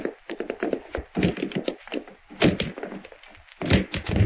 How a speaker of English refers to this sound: Break the door down, Sheriff.